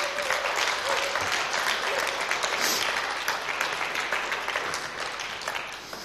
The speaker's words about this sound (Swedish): Jag tycker ni ska ge dem en applåd.